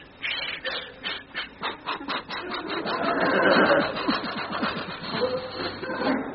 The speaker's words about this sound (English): And so we arrived by train.